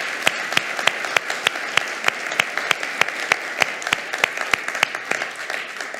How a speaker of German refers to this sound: Und ich glaube, ihm gebührt heute alle Ehre und wir wollen ihm mal einen ganz großen Applaus geben. Jesus!